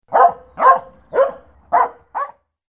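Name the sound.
dog barking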